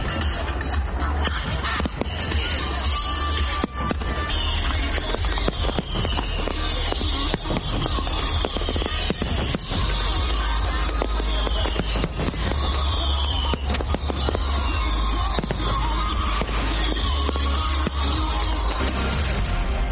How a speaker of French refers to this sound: Toujours à Washington DC, à partir de 21h et pendant environ 17 minutes, depuis le National Mall, les Américains ont eu droit à des grands feux d'artifice.